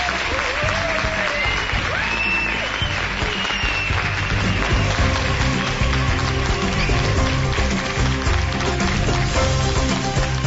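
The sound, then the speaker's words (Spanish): A large audience at a congress gathering in a hall applauds steadily for everyone present, a dense wash of clapping that stays loud and even throughout, with faint voices and whistles mixed into the crowd noise. “Y quisiera pediros un aplauso para todos los que estéis aquí.”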